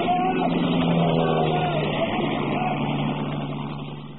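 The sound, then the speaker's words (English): A loud, steady engine drone of an aircraft passing overhead, rumbling with a low hum, holding strong for a few seconds before gradually fading away at the end. “That was one of ours that went over.”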